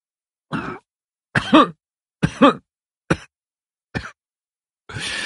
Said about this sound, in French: Vous oubliez tous quelque chose, croassais-je entre deux quintes de toux.